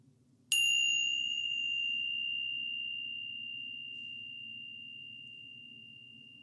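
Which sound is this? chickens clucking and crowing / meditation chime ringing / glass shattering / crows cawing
meditation chime ringing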